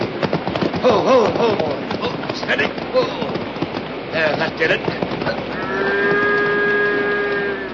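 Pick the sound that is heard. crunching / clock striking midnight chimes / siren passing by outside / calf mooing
calf mooing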